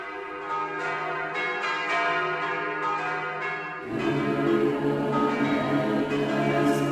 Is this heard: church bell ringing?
yes